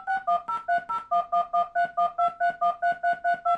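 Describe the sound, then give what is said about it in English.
A quick, evenly paced run of about seventeen short DTMF touch-tone beeps encoding numerals, each a steady two-pitched electronic tone, with the pitch pairs shifting slightly from beep to beep. No voices. “Third, the numerals dual-digit touch tones.”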